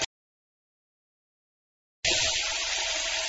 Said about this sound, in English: Let's make tea. First, turn on the tap.